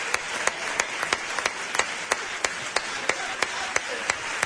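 A crowd applauds steadily, a dense wash of clapping punctuated by sharp, evenly spaced claps in a quick rhythm, moderately loud and with no voices.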